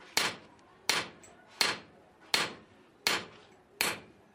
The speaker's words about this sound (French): Ces coups de marteau que vous entendez proviennent de l'atelier de bijouterie de Oumar.